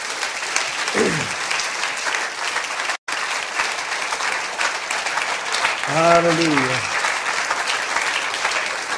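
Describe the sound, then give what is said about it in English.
A church audience claps by hand to give the Lord a hand clap of praise, a steady, dense roar of applause lasting several seconds, with brief shouts and whoops rising above it and a momentary gap partway through. “I want you to just give the Lord a hand clap of praise.”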